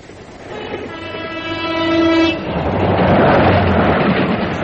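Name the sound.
passing train with horn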